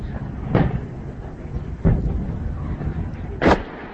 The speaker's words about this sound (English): Sound purported to be explosions in the southern city of Daraa, where troops have been battling rebels.